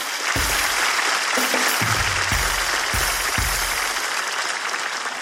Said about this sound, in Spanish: Buena observación. Buena observación. Me ha gustado. Un aplauso para ella.